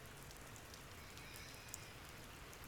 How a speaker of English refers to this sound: Rain on a cross-country road trip. A light rain, just a little pitter-patter, just enough to have to turn your wipers on, nothing big. Just enough to hear it in the car, mixed with the road sounds.